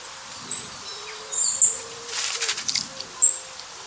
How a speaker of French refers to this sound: Alors on va par exemple pour expliquer à nos auditeurs, on va écouter par exemple la grive musicienne juste pour nos amis auditeurs.